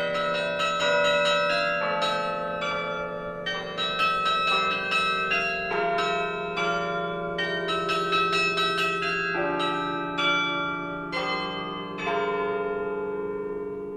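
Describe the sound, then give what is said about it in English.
Church bells in Chicago peal in a continuous, overlapping sequence, each strike ringing out with long, shimmering overtones. The ringing is loud and steady throughout, with no voices present. “it's kind of a throwback to the old days of bells and bell ringers”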